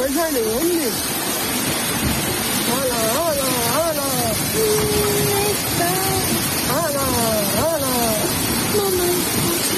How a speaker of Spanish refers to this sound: Así sonaba el torrente de agua que, como escucha, se llevó por delante coches, inundó muchas calles, garajes, hasta una parroquia del municipio, además de caída de ramas y de muros.